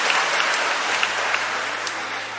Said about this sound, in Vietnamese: Chúng ta cho một tràng pháo tay hoan hô hai thánh tử đạo này.